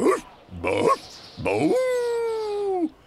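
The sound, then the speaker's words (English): A person's voice imitates a dog, giving two short yipping calls and then one long, sustained howl that holds steady before trailing off, fairly loud. “And I'll howl along.”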